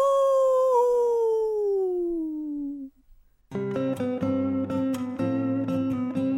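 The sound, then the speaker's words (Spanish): A single long wolf howl rises briefly, then slides steadily downward in pitch for about three seconds before cutting off. After a short pause, loud music with a steady beat begins. “El hombre lobo. ¡Aú!”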